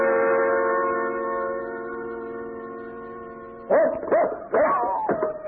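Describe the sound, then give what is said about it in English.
A dog named Jeff lets out a long, steady whining tone, then breaks into four quick, loud barks and yips in close succession, clear with no talking. “Jeff, you fool dog, come back here.”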